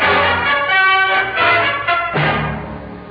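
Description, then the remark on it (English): A car driving along, a loud, steady engine roar with a whining pitch that rises and falls over about three seconds, with no one talking. “Stop the car.”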